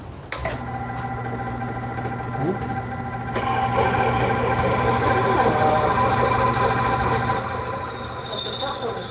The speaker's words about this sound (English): Okay, so it's drilling a hole right through the center of that thing. It's a little stinky.